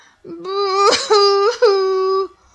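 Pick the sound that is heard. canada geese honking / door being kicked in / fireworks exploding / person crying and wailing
person crying and wailing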